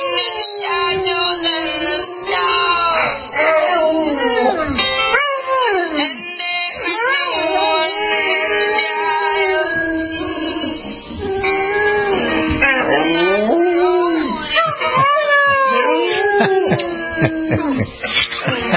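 A rescue dog named Rev howls loudly in long, wavering, sliding tones, rising and falling almost continuously for the whole stretch, singing along to a song like a mournful attempt at singing.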